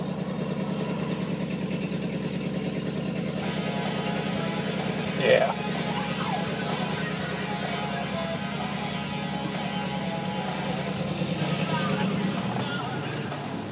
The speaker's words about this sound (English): Listen to this pickup truck. Listen to this thing.